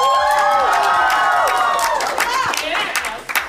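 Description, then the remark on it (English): A small live audience cheers and whoops over scattered applause as the show All Work, No Play is introduced, loud and steady for about three seconds before tapering off, with excited high-pitched voices mixed through the clapping. “It's a good intimate crowd.”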